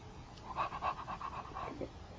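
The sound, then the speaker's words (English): A person imitates a dog with a quick run of soft, breathy woof-like bursts, about seven in a steady rhythm, fairly quiet, with no other talking. “No, the doggy says, woof, woof.”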